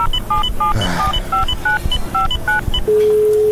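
A telephone number is dialed: a quick sequence of about a dozen short two-tone beeps in an uneven rhythm, followed by a steady ringing tone, over low background rumble.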